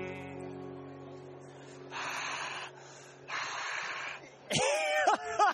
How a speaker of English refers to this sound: And the heavy breathing you hear on my Fix It Up Life is none other than...